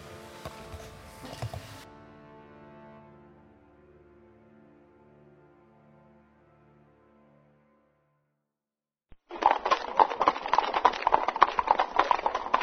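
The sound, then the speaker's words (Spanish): A fading, ringing musical tone gives way to silence, then a loud, dense clatter of many horses' hooves trotting past pulling light cannons and ammunition carts along a crossroad by moonlight, a busy overlapping clip-clop with no voices. “Por un camino transversal pasan cañones ligeros y carros de municiones. Los lomos de los caballos brillan al claro de la luna.”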